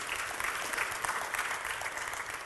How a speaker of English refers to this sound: I believe in showing honor to our elders, no matter what. You can clap for that. That's fine. That's good.